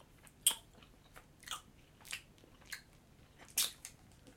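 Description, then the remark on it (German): Someone bites into and chews a Dumble chocolate candy bought at duty free, with a loud crisp crunch followed by several softer, irregular chewing crunches and no talking. “Kennst das ist ein Schokoladenbonbon. Ich beiß mal rein.”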